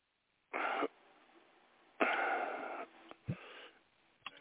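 A pastor sneezes: a short sharp noisy burst, then a longer breathy blast a moment later, with a faint snuffle and a brief low knock near the end. No talking.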